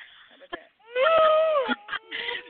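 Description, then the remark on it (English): A voice imitates a swooning sound: a long, wavering, sighing moan that rises and falls in pitch, lasting about a second, with short breathy vocal fragments before and after. “It sounds like an unhappy cow.”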